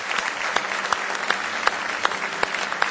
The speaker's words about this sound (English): Give the Lord one more good hand clap of praise if you love Him with all your heart.